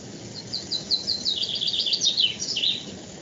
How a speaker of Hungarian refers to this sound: Hallunk valamilyen madárhangot, ez az önök kertjéből jön? Igen, itt a teraszon ülök meg a kert is itt van, hogy igen.